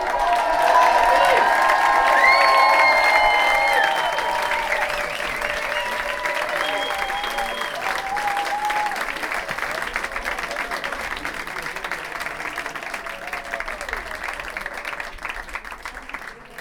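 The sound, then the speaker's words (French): A crowd applauds steadily for about seventeen seconds, with high whistles and cheering voices over the clapping in the first few seconds before it settles into even, sustained applause. “On l'applaudit.”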